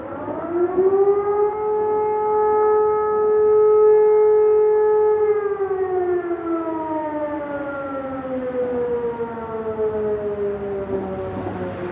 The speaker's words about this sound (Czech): Co to bylo? Siréna.